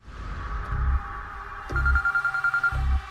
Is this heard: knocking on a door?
no